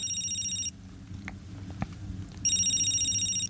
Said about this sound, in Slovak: Mobil zas začne zvoniť. Na displeji sa ukazuje, že mu opäť volá manažer z firmy.